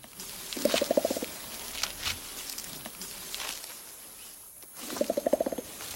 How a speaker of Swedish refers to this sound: Men hör och häpna här. Så här låter det när en gorilla slår sig på bröstet.